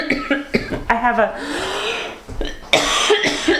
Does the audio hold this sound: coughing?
yes